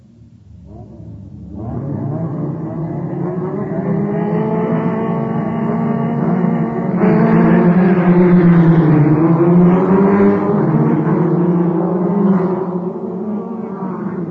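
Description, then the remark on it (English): Loud, sustained engine roar from Formula One cars on a racetrack during a fast practice session, with layered harmonic whines that rise and bend in pitch as they rev and pass, building after a quiet start and staying dense throughout with no talking. “The roar behind me is a Formula One racetrack resounding to a fast practice session.”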